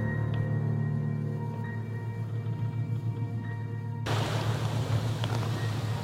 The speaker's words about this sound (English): I used to think there was something quite relaxing about the sound of the sea. Now it's all just very unnerving.